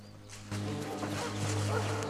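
A pack of the King's men's hunting dogs barks and bays as they are led through a forest on leashes, their overlapping calls blending into a steady, noisy wash over a low background rumble.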